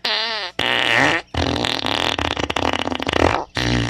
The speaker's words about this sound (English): And click. Fart sounds.